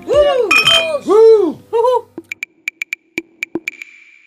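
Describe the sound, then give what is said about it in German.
Voices chatter and laugh briefly, then glasses clink together several times in quick succession in a toast, bright ringing taps with a short resonant tail. “mindestens mal eine Flasche gibt es hier. Ich sage aber nicht welche. Ja. Meine Güte. Ja, Prost.”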